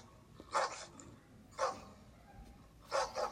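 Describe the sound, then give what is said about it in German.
Dogs, just woken at a tent camp with a campfire, bark in short bursts, three separate outbursts spaced about a second apart, the last one a quick double bark, over a faint background. “Kurz danach wurden auch die Hunde wach.”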